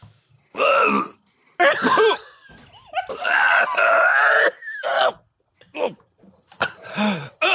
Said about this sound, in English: He puts the thing in his mouth. 2 seconds later, this orange cloud comes out of his mouth with the first cough.